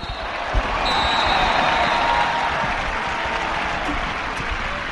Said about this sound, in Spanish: Aplausos y más aplausos después de la victoria por 2-0 contra el Llanera y después de conseguir 3 puntos en casa, algo que no se conseguía desde el 28 de noviembre cuando se ganaba el Langreo.